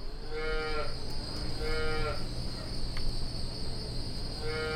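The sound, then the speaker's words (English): Cows at Wanadale Farms, a dairy farm, moo as they are put in for milking: three long, low bellowing calls spaced a couple of seconds apart, over a steady background hum and faint insect chirping, with no one talking. “Then you come out, you put the cows in, milk the cows.”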